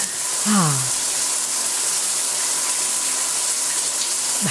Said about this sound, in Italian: È arrivato veramente il momento di andare a farci una bella doccia.